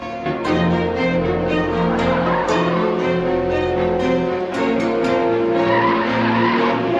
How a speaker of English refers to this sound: Bridget's red car comes swerving round a tight bend straight towards Luke. He leaps out of the way and the car stops suddenly beside him.